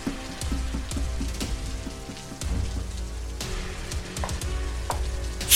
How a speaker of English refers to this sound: I had no idea there were acid rainstorms here as well.